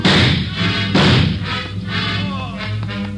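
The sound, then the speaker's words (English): A fleeing man, shot in the leg, falls heavily to the ground, with two loud, dull thuds about a second apart as his body and head strike, followed by scuffling and faint low noise. “He got him in the leg, Joe. Hit his head when he fell.”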